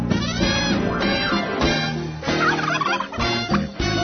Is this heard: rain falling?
no